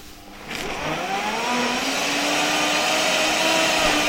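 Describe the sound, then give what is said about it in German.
A smoothie blender motor whirs up at about half a second, its pitch climbing and then holding a steady, loud whine with a grinding texture as it finely chops leafy greens. No one speaks. “So ein Smoothie-Mixer schafft es natürlich wirklich, das maximal zu zerkleinern, das Blattgrün.”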